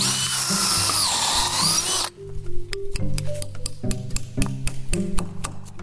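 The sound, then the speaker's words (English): A power drill whirs briefly, drilling a hole, then a sap spout is tapped into a tree with a quick run of sharp hammer strikes whose ringing pitch shifts as it seats snugly. “You hear how the sound changes? You can tell when it's seated in there.”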